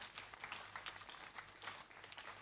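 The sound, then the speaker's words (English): A crowd claps together as a clap offering for the Lord, in a dense, continuous burst of applause that holds steady in loudness for the whole stretch, with no one speaking over it. “Another clap offering for the Lord.”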